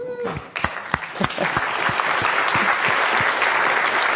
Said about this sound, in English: He's going to be talking about functional programming. Go. Round of applause for him, please.